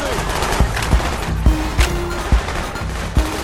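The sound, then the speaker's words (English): Video game gunfire in Call of Duty Black Ops, in its recreation of Kowloon: about half a dozen sharp shots crack out at irregular intervals over a dense, busy background rumble, fairly loud. “It lives on in a kind of virtual memorial. Except with, way more gunfire.”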